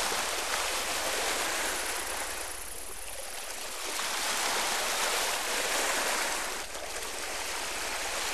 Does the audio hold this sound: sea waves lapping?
yes